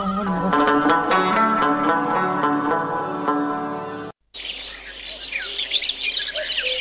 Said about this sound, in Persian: سر این زاغ ها شک نکو، پرندای بسیار بد هستن.